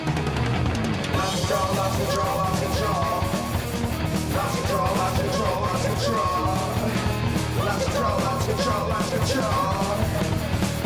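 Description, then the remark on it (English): A loud, dense rock track with a steady beat and a cowbell clanking along in rhythm over heavy guitars and shouted vocals, continuous throughout. “Cowbell.”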